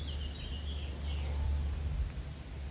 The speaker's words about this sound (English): Today's music is some birds that are singing. I hope you can hear them.